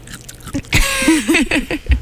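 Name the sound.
crunching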